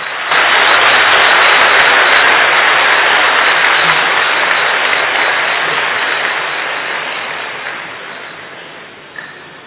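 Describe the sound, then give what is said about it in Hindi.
An audience applauds loudly and steadily at an evening gathering at Madhuban Shantivan, having been asked to clap loudly together. The dense clapping has a hiss-like texture and holds strong for several seconds, then gradually thins and fades toward the end. “सबसे पहले करे शुक्रिया बाप दादा का, सब मिलकर बजाओ जोर से ताली।”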